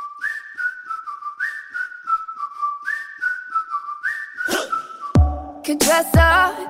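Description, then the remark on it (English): A clear, bright whistled melody in a pop song repeats a short rising-and-falling phrase in steady rhythm, then a punchy beat with deep bass hits kicks in near the end. “This features whistling very prominently.”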